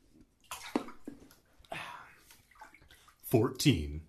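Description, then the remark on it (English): Bath water sloshes and splashes in a few uneven bursts as someone sits in the bath reading a book aloud, fairly soft overall, with a short stretch of voice sounding near the end. “I'm in the bath already.”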